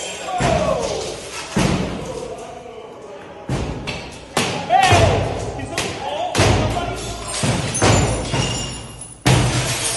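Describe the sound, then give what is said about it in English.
People repeatedly smash against doors and shatter glass: heavy thuds and slams, irregular and forceful, with crashing impacts and a noisy crowd-like clamor; voices can be heard in the background amid the banging. “So right now they're smashing up against doors. And there's them shattering the glass.”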